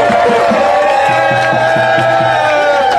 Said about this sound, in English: If you are a sister, black, white, Asian, or otherwise, if you are a sister in this space, can we cheer for all of our sisters who are out here today? Come on, you got to do better than that.